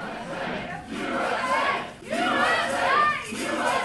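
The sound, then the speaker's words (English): A large crowd chants "USA" in unison during a speech by McCain, the presumptive Republican presidential nominee. It is a loud, dense roar of many voices rising and falling in rhythmic swells with brief dips between chants. “This McCain speech has the audience chanting USA, which I've always kind of fantasized me giving a speech with USA being chanted over and over again.”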